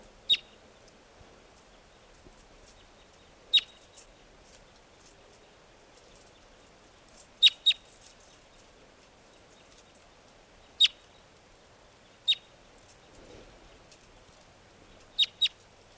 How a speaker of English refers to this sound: the wild birds are still here, up in the trees near the net. This is one of them calling.